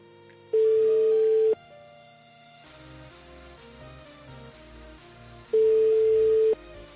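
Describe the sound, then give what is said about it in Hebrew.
Two long, loud steady telephone ringback tones, each about a second long and spaced several seconds apart, sounding over quiet background music with no one speaking, as a phone number is dialed to the official loudspeaker service of a funeral. “והוא עם מספר טלפון, אנחנו מחייגים מספר טלפון להגברה הרשמית של ההלוויה של המחבל, אמיתי לגמרי, בוא נראה אותו עונה.”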